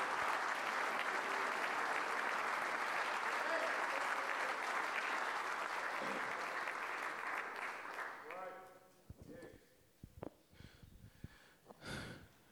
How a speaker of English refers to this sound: Somebody clap your hands one more time unto the Lord.